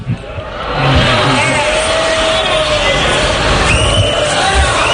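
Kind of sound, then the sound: crowd, crowd booing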